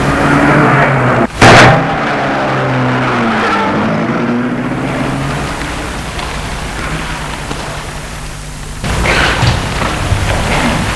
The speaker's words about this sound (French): Et ils entrent dans la voiture et la voiture démarre.